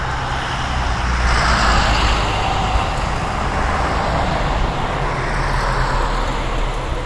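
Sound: car passing by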